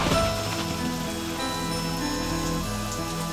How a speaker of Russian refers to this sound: Все льется дождь, шумит по мокрым крышам, и не видать ему ни края, ни конца.